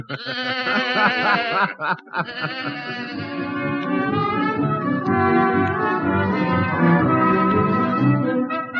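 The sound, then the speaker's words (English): A goat bleats loudly in long, wavering, overlapping cries that continue almost without pause, with only a brief break near the start. No one speaks. “Did you ever try sleeping with a goat chewing your toes all night?”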